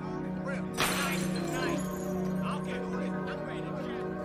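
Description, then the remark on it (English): A glass bottle is smashed on the sidewalk by a young man walking along a street, with one sharp, bright crash early on, followed by a brief scatter of shards over a steady street hum and indistinct background voices. “Three young black guys walk past, one smashes a bottle on the sidewalk.”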